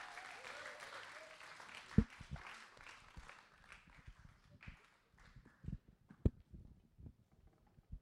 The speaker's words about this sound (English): So why don't we give him a huge round of applause as he comes and shares the word this morning.